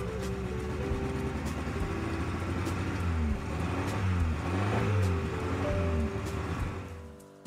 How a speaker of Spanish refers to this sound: jurándole fidelidad a este auto que lucía tan imponente los primeros días y que ahora se mueve a saltos como un pinto resfriado.